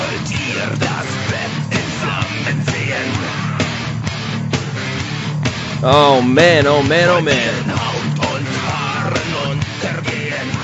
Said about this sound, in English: a little band from a little country. You guessed it. …!